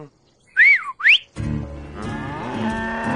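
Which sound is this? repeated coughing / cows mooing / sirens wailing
cows mooing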